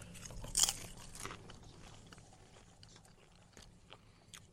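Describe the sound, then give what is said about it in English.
Crunching on Angie's Boom Chicka Pop Real Butter Microwave Popcorn, with a loud crisp bite near the start followed by softer, irregular chewing crunches that gradually fade, with no talking. “So it's Angie's Boom Chicka Pop Real Butter Microwave Popcorn.”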